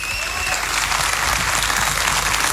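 Steady, loud applause from a large audience in memory of the late radio journalist Manuel Araneda, at the start of the festival's 25th edition; a dense wash of many hands clapping without pause for the whole stretch, with no voices standing out.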